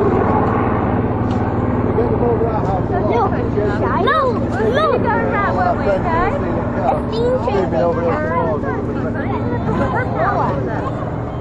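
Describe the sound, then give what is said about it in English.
A loud, steady low droning hum of a helicopter flying low overhead, continuing throughout while several people chatter. “Look at helicopter, low higher. Oh yeah, that is low.”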